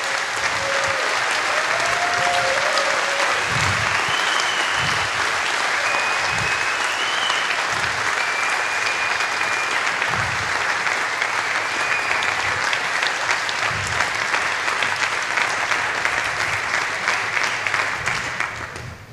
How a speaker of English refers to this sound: They did it. They managed to get through this. Okay. Let's give a really big, big round of applause.